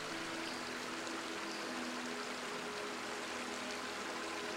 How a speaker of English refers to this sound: The water doesn't worry how it continues, it just flows.